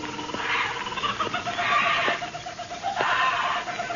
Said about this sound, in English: Old man Kelso had a huge aviary at one corner of the house. Something had disturbed the birds.